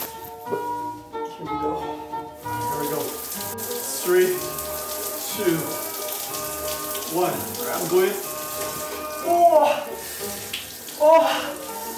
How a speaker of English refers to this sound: Okay, cold shower. Never thought I would do this.